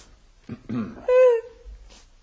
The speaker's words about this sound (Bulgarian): Я. Ти що плачеш? Ще плача я.